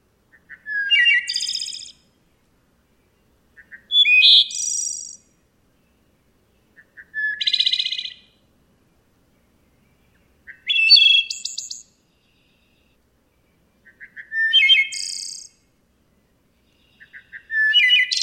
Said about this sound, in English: Here's the West Virginia wood thrush. Thoreau called the wood thrush the Shakespeare among birds.